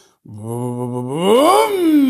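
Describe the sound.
A voice imitates a convertible car's engine revving on its own, failing to hold idle speed while stopped at a traffic light: a low, steady hum that swells upward in pitch and loudness, then sinks back down, about two seconds with no other sound.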